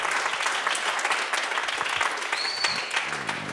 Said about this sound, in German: Das sind 30 Punkte und Applaus